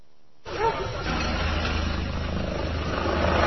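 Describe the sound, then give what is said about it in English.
A steady, droning rumble of helicopters flying overhead starts abruptly and holds for several seconds, a low throbbing hum beneath a broad wash of noise, fairly loud and continuous with no talking. “Hear the helicopters?”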